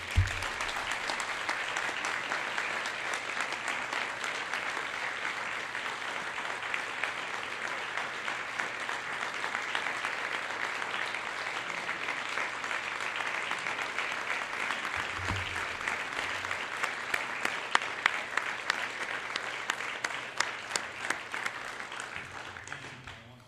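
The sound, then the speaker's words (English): Sustained audience applause at a banquet, a special round of applause for a man whose vision led to Fort Recovery Radio, lasts over twenty seconds, dense and steady, with sharper individual claps standing out toward the end as it begins to thin. “And I think he deserves a special round of applause.”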